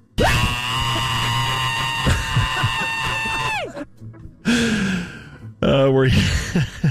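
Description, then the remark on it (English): A recorded scream sound drop: a long, loud, high-pitched scream held for several seconds and then cut off, followed by a couple of shorter strained shrieks and gasps, piercing. “We played this yesterday, the … scream.”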